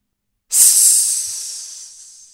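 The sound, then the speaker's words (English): A loud, sharp hiss bursts in suddenly after a moment of silence, then holds as a steady airy rush that slowly fades over about two seconds. No voices are heard. “That line ends with, parentheses, loud hiss.”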